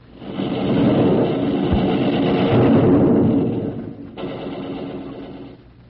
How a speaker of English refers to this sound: Well, that was thunder, and that would be the god of thunder, Thor, and the day of the week that's named after him is Thursday.